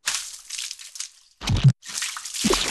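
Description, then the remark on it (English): Wet, squelchy splatters of paint land on a big canvas laid on the floor as paint is dripped, poured and flung onto it, with a soft hiss of dripping, then a heavier sloppy splash midway and another toward the end. No voices. “He dripped, poured, and flung it around.”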